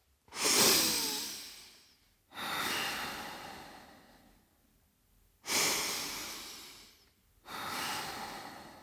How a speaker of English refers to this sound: Start again. Breathe in for four and then out for four. And don't speak.